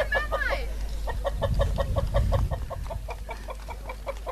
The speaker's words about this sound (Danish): Det er hanen Uffe. Den kan altså ikke lide duerne.